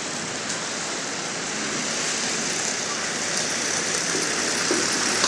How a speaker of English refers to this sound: Almost out. Let's see how we go. Just spinning all four tyres at the moment. Okay, let's see. Almost out.